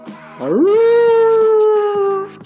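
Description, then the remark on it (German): A single loud howl in the style of a werewolf on a full-moon night, sweeping up in pitch and then holding a long, steady wail for about two seconds before tapering off. “Und der Werwolf jault.”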